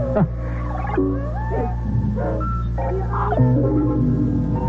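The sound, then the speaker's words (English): A rooster crows in a series of warbling, rising and falling calls, loud, over a steady low hum throughout. “Then the first crock crows and morning shows and the troublesome ghosts away.”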